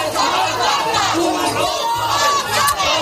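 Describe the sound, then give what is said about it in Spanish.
A crowd of dozens of people shouts together outside a courthouse in Seville, Spain, many overlapping voices yelling loudly and continuously, with a dense, agitated roar that rises and falls without a break. “A la salida le esperaban decenas de personas al grito de «Tú sabes dónde está Marta»”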